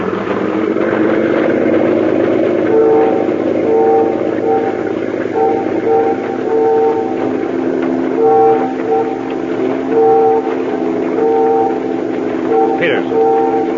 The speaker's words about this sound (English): Ferry whistles. They're signaling us.